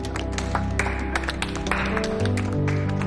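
A woman smiles and gives a few irregular hand claps, sharp and bright, over steady music that keeps playing underneath for the whole stretch.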